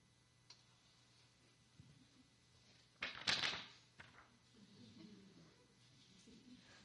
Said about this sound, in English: We hear papers folding, teachers scolding, tickety-tock of our classroom clock